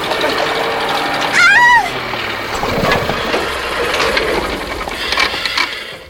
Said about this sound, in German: Da vorne kommt ein Trecker! Oh nein!